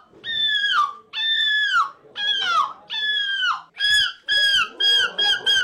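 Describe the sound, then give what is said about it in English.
A competitor in the European Seagull Screeching Championship imitates a seagull's screech, giving four long, high, wailing calls that bend downward, then a rapid burst of shorter, sharper squawks, loud and alone. “Well, here's what the competitors in the European Seagull Screeching Championship sounded like.”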